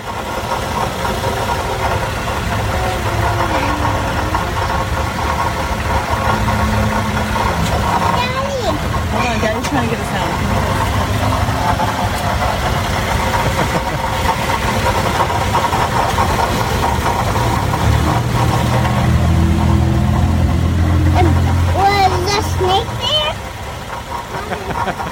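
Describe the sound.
A car engine idles steadily and loudly with a rough, uneven knocking beneath its low hum; toward the end the low rumble thickens and shifts. Muffled voices come through at moments.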